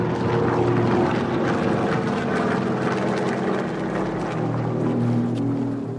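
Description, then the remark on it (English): A steady, low drone of Japanese enemy propeller warplanes over Guangdong Province, China, near the southern coast, fills the air, a thick rumbling engine hum with a throbbing pitch that holds constant throughout, with no voices present. “the people of Guangdong Province in China, near the southern coast, noticed a low droning sound in the air.”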